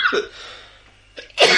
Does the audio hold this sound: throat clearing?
yes